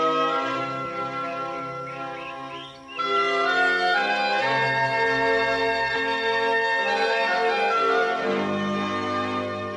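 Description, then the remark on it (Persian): Rich, ringing bell tones of a clock's bell being rung, layered with sustained musical chords. The sound swells louder after a brief dip and continues in a full, resonant chime-like texture with no voices. “زنگ یکی از ساعتاشو به صدا در میاره و پرنده ها بر میگردن سر جاشون.”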